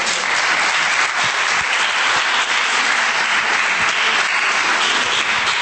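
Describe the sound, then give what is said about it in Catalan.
An audience applauds steadily, a dense, even wash of many hands clapping at a fairly loud level throughout, with no voices standing out. “Moltes gràcies, un aplaudiment.”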